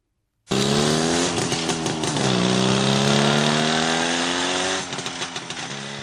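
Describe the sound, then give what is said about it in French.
A Java motorcycle engine (the oldest motorcycle brand in the Czech Republic) roars in abruptly and revs hard, its pitch climbing and dipping in surges, then settles into a rougher, slightly quieter idle near the end. “Java en français, la marque de moto la plus ancienne sur le territoire tchèque.”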